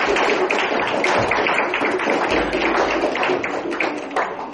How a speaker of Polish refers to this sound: Należą ci brawa, nie?